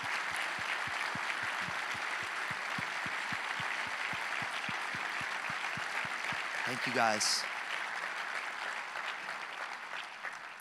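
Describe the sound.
A room full of people applauds senior pastors who have been asked to stand up. The clapping is dense and sustained throughout, with a brief spoken thanks over it near the middle.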